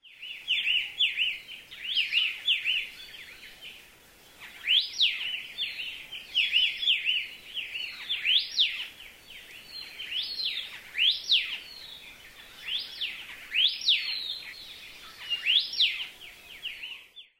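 An Elepaio sings its dawn song in a forest as the day begins: a steady series of bright, whistled rising-and-falling phrases repeated every second or so, clear, with no talking.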